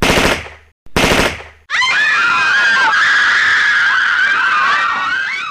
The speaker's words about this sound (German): Dort lief ein Horrorfilm, es floss viel Blut und man hörte kreischende Menschen.